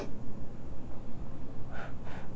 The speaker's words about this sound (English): Sniffle and sneeze. You can't do it, can you? Watch me sniffle.